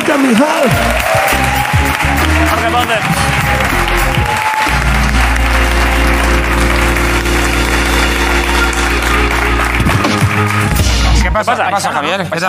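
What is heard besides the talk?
audience applause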